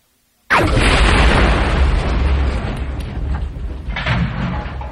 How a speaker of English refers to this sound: had to use his blaster on the main door into the cargo bay. Once it was shredded and gone, the atmosphere from the passageway nearly blew the two of them into the bay itself, but the combat droid held fast.